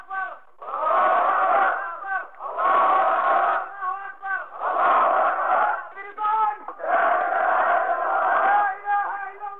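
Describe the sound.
A crowd of several hundred men, old and young, at a funeral in a Jordanian village chants "God is great, jihad" and anti-American slogans in unison, loud rhythmic bursts of shouting repeating every couple of seconds with brief pauses between.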